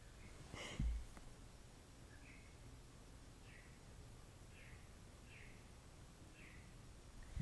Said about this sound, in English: But I don't know if you can hear the birds, and I want to know why they've been tweeting or chirping loudly all night.